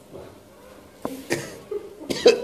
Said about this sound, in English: I do have this cough